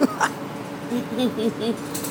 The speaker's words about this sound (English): You can hear how noisy the lift buses are.